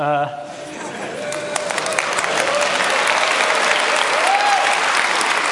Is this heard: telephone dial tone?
no